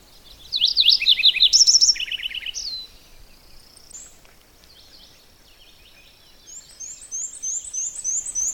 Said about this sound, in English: There's several warblers. The one I'm trying to focus on is a black and white warbler. It goes weecha weecha weecha weecha. There, that's its song. Now there's some interference, of course, because other warblers are singing too.